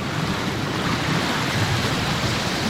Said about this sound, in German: Das Fährenfahren, das ist halt schon etwas Spezielles, oder? Und wir sehen jetzt heute Morgen hier, jetzt haben wir ganz einen leichten Nebel. Wir haben eine schöne Strömung auf die ganze Breite.